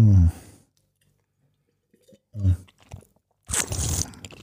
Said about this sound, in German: Das kannst du aber auch richtig gut, ne? Was, das Schlürfen?